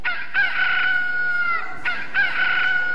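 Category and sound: bird, rooster crowing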